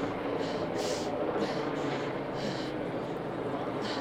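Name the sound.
helicopter hovering overhead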